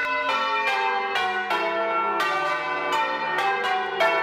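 Church bells in New Orleans, Louisiana, U.S., ring out on a Saturday marking the 10th anniversary of Hurricane Katrina, in a dense, overlapping peal, with strikes roughly every half second and rich ringing overtones sustaining between them; loud and steady throughout, with no voices.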